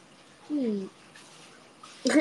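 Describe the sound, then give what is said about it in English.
Warm water runs steadily from a tap into a bathtub, a soft continuous rushing hiss, with a short vocal sound early on and a voice starting up at the end. “I'm gonna sit closer to where the water's coming out because it's warm over there.”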